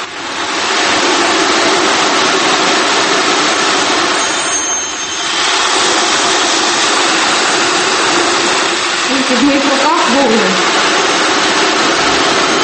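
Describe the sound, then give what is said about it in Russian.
An ocean drum from a collection of exotic musical instruments is played, giving a steady, loud, surf-like hiss as its beads roll continuously, with a brief dip in the wash midway and a faint wavering tone near the end. “Вот это звучащая выставка. Ocean drum.”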